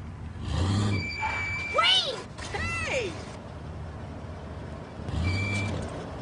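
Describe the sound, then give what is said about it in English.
A car's engine rumbles low and steady while its troublesome brakes let out a couple of sharp, wavering squeals midway, then the rumble surges again near the end. “I'm just having a little trouble here with the brakes, that's all.”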